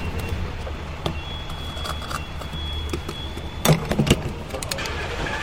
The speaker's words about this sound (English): Finally being able to fill up your gas tank.